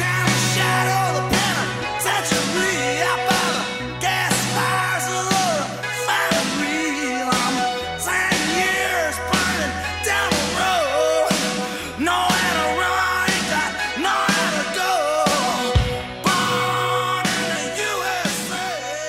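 A loud, driving rock song plays at full volume, with a male singer belting and shouting the vocals over pounding drums and dense, steady instrumentation.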